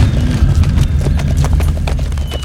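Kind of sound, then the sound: animal, horse hooves clip-clopping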